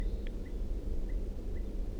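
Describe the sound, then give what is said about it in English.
Faint type 2 red crossbill calls from down the hill: a handful of short, sharp kip notes spaced irregularly over a steady low outdoor rumble, with no talking. “I do hear a type 2 crossbill calling from down the hill.”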